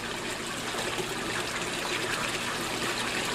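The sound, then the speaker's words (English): Steady rushing of flowing water fills the whole clip, a continuous bright trickling and gushing with no breaks and no voices, from a series of riffle and pool chambers built to mimic headwater streams in the experimental stream lab at the Leetown Science Center in Kearneysville, West Virginia. “This is the experimental stream lab at the Leetown Science Center in Kearneysville, West Virginia.”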